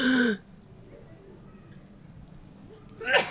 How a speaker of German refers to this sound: Jetzt muss ich gleich niesen